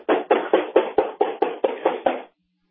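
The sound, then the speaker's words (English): A rapid, steady run of about nine firm knocks on a back door, fairly loud, lasting a couple of seconds before stopping abruptly into silence. “He's knocking on the door. He's knocking on the back door now.”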